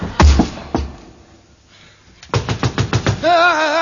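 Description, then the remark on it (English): A couple of loud, separate knocks on a door, a pause, then a quick burst of about seven rhythmic raps, sharp, followed by a brief wavering, warbling tone. “Oh, he's at the door, mate.”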